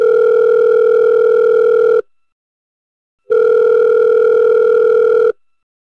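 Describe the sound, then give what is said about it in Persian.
Two long, steady electronic ringback tones, each about two seconds, separated by a pause of over a second, with no voices, the typical sound of an outgoing call from a mobile phone to home, made from a hospital, waiting to be answered. “موبایلمو برداشتم و به خونه زنگ زدم.”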